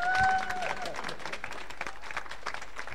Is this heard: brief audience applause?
yes